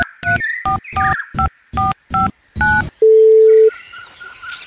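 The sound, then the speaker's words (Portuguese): A phone number is punched in to call Mosquito Hot and order 100 flies: eight short two-tone keypad beeps in an uneven rhythm, then one longer, lower steady tone, trailing off into faint warbling line noise. “Ah, querida, é Natal, vou ligar para o Mosquito Hot e encomendar 100 mosquitinhos.”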